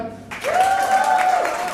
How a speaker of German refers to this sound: Großen Applaus